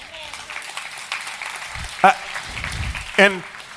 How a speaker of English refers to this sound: thank you for the applause, but that is definitely not meant for me.